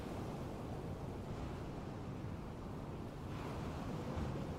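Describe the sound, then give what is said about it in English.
A steady, dense roar of ocean surf with a windy rush over it, holding at an even loudness throughout with no distinct individual wave crashes and no voices. “You said you loved the view. The sun setting into the ocean.”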